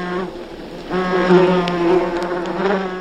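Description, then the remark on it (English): Wasps buzz loudly in a continuous, droning hum that swells after the first second and wavers in pitch as they move about. No voices. “Oropendulas also favor trees that bear large nests of wasps, whose stinging attacks deter both potential nest predators and parasitic insects.”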